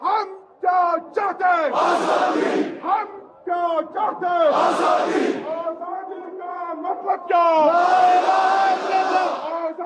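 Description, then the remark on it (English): A large crowd of protesters in the streets of Kashmir, protesting after Article 370 was revoked, shouts and chants in loud, rhythmic bursts, many voices rising together in repeated slogans with brief pauses between waves of yelling. “First, large crowds of people living in Kashmir took to the streets to protest, saying they want Kashmir to be free and independent.”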